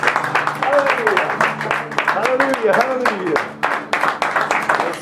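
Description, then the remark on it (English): A worship audience claps hands in praise to God, a dense, steady patter of claps lasting the whole stretch, with voices calling out and rising and falling underneath. “Let's give Him a hand clap of praise right now.”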